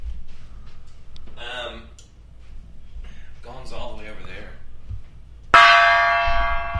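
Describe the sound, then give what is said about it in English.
A single loud gong strike rings out near the end, its bright shimmering tone slowly decaying, after a few seconds of people talking. “Robin Givens is a champion today. Okay. Robin Givens, where's the gong, boy?”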